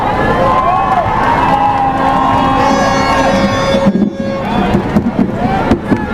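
A large crowd claps and cheers loudly and continuously, with shrill whistles and scattered shouts rising above the roar, which thins into a few last bursts near the end.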